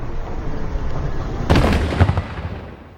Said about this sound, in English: We've heard at least 20 loud explosions like that over the last 10 minutes or so. Here's another one.